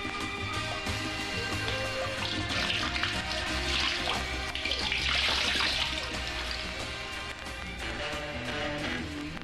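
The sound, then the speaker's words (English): Water poured from a horn held about 3 feet up splashes into a lake or river at a varying rate, a continuous gushing that swells and eases in intensity, imitating a cow moose moving in the water. “From a height of about 3 feet, empty the horn into the lake or river at a varying rate.”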